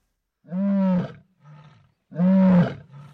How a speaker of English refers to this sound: Lions roar across the dawn light in Meru National Park in the northeast of Kenya on the hunt for prey. There are around 70 adult lions and cubs that call Meru home.